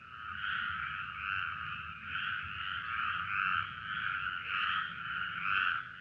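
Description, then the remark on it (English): A steady chorus of toads croaking in continuous, overlapping trills, moderately loud, pulsing slightly in intensity throughout with no voices present. “Every spring, there's a warning triangle with a picture of a toad fixed to that post to warn motorists that these little chaps, and of course these little girls, will be crossing in large numbers to their breeding pond.”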